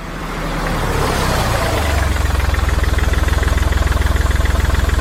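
A car engine starts up and settles into a steady idle, its low rhythmic chugging pulsing evenly, with no voices.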